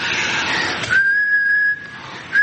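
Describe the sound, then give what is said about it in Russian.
A person whistles a steady, sustained note with plenty of audible breath hissing around it, preceded by a rush of airy noise, then a short breathy start to another note. “Это вместе с свистом сразу выходит дыхание.”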